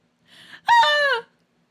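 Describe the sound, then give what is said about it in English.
A person imitates a Wilhelm scream: a short breathy intake, then one loud, strained, harmonic yell lasting about half a second whose pitch drops at the end. No other talking is heard. “for the next 2 minutes, let us each try our very best at doing our very own Wilhelm screams.”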